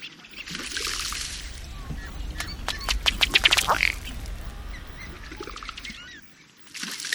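A male ruddy duck's courtship display: quick bursts of dry, accelerating ticks and pattering as he runs across the water with rapidly beating wings, alternating with bubbling, splashing water, repeated twice, with a soft watery hiss throughout.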